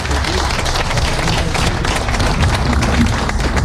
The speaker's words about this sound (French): On peut l'applaudir, on peut l'accueillir.